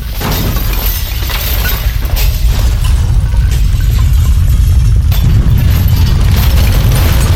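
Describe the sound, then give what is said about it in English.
Loud, sustained crashing and shattering of glass in a home in Ludwigshafen as a concussion shakes it, over a deep rumbling roar, a dense continuous wall of breaking debris with no voices. “Down the hall to the nursery, Anna hears the sound of shattering glass, and her heart drops into her stomach.”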